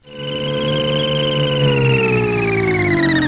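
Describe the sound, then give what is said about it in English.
A sustained, warbling electronic tone glides slowly downward in pitch, like the Jetsons' flying car humming along, offered as the sound electric cars should make. It's loud and steady for about three seconds, with a bright buzzy timbre and no talking. “We've got a whole bunch of fan texts that say that the electric cars should sound like the Jetsons car.”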